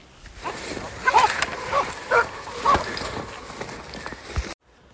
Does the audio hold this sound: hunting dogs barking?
yes